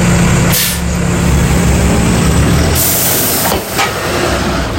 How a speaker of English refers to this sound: is getting on the 496 bus. It's 7:30 in the morning and the bus is packed. The bus is on schedule this time